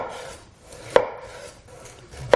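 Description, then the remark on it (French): Two crisp knife chops on a cutting board, spaced over a second apart, each a sharp, bright thunk over a soft, steady background rustle with no talking, as rabbits are cut into rounds for a recipe. “Coupez les lapins en rondelles.”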